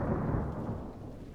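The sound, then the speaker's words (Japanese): A low, deep rumble of thunder rolls steadily in the distance outside after a flash of lightning, muffled and broad, fading gradually without any sharp crack. “雷の音も、でも遠そうですけど、”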